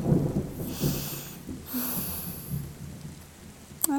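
thunder

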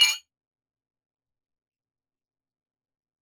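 drinking glasses clinking

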